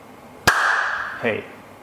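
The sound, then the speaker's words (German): A single sharp hand clap cracks out and leaves a long, ringing tail that slowly fades, followed a moment later by a brief, softer murmur of a voice. “Gut geklatscht.”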